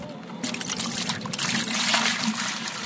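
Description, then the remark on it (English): A steady trickle of pump drinking water runs continuously from one of three large storage tanks used for selling water at a house, fairly loud, with a bright splashing hiss that holds for the whole few seconds without pause. “sells water out of three large storage tanks.”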